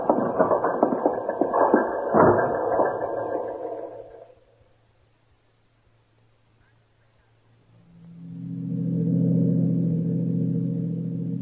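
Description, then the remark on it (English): A car drives toward an amusement park and camp area with a rough, noisy engine rumble that fades away into a few seconds of quiet, then a lower, steady motor drone swells back in and holds. “We can leave the car at Watson's store.”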